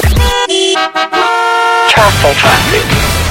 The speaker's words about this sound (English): That traffic intro is super loud.